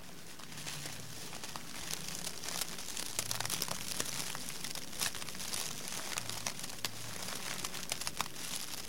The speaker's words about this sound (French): Là, j'ai pris un verre avec un tout petit peu d'eau, j'ai simplement mis le dépoussiérant dedans.